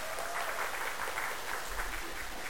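An audience applauds for those who led the preliminary prayer before the church service, a steady, dense patter of many hands clapping together, sustained at an even level throughout with no voices standing out.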